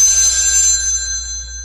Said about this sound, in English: Hey, I hear the phone ringing. You? I hear the phone ring. Oh, now I hear it. I should pick up that phone that's ringing.